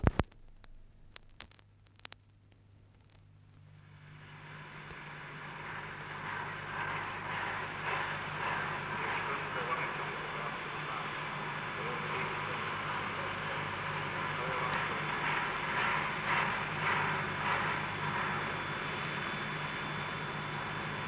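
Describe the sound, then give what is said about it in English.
A New Zealand Railways KA steam locomotive, number 953, getting under way with a southbound passenger train from Auckland to Wellington at Te Kuiti, Friday night, October 24, 1958: a few sharp clicks, then a broad hissing roar of steam swells in and holds steady and loud, with a faint rhythmic pulsing beneath it. “A New Zealand Railways KA steam locomotive, number 953, is about to depart with a passenger train heading south from Auckland, bound for Wellington.”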